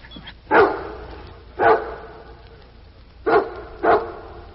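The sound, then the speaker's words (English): A dog named Rennie, after sniffing a smell, barks four times in short, sharp bursts, two spaced apart and then a quicker pair, with no talking over them. “Now, Rennie, take another sniff. A good sniff and bark.”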